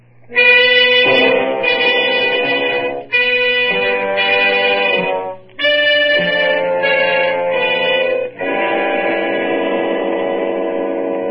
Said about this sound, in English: Come on, forget that train.